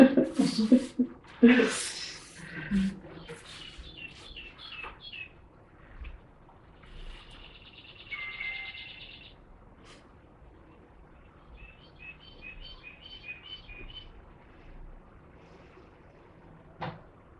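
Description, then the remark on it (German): A clock chimes with a recorded birdsong melody: a few short bursts of chirping, tweeting notes, moderately quiet, after some clattering and low voices at the start. “Hast du Vögel? Meine Uhr.”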